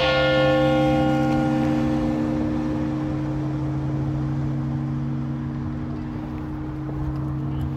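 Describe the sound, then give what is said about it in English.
A single deep bell strike rings out and then hums on for several seconds, its layered tones slowly fading in a long, steady resonant decay with no voices. “But when the bells stop ringing, there's this echo that continues on for several seconds, which... it's just like this vibration”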